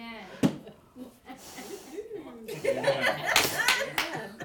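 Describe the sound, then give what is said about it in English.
A sharp clap rings out early, then an audience breaks into scattered, building applause mixed with cheering and a bit of laughter, while people keep talking over it. “We got a cheering section in here tonight.”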